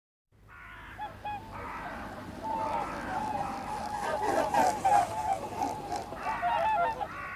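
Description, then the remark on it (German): Many geese honk and call in a busy chorus on a grey, drizzly mid-January early morning, set against a steady bed of wind noise and low traffic rumble from a nearby motorway that continues throughout. “Vogelrufe erschallen, gebettet in das Rauschen des Windes und der nahen Autobahn.”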